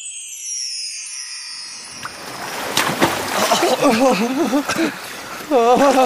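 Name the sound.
rushing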